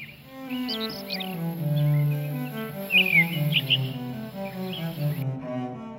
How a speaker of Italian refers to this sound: Percorriamo un giardino fiorito. L'aria profuma di gelsomini. Qualche uccello cinguetta sui rami.